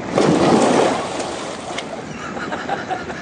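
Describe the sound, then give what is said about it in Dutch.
A loud splash as someone jumps into water, followed by a couple of seconds of softer sloshing and lapping as the water settles. “Waarom spring je nou in het water?”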